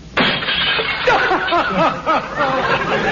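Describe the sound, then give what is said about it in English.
A large glass shop display window, hit by an arrow released from a bow, shatters with a sudden loud crash, the breaking glass crackling on as someone breaks into snickering laughter over the debris. “My other show window. You smashed it.”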